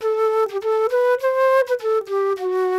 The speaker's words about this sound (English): flute.